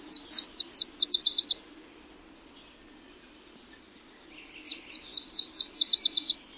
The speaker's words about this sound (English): The refuge's multiple habitats are rich with bird life. Peat bogs, streamside meadows, shrub thickets, cedar swamps, maple forests, and more than 20 kinds of warblers nest here. There's one now.